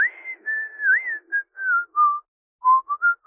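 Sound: man whistling a tune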